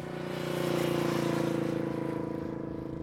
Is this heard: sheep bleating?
no